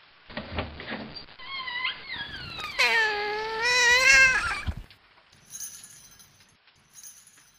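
A cat lets out a long, drawn-out meow, loud, its pitch wavering over a few seconds, followed by quiet, faint clinking sounds.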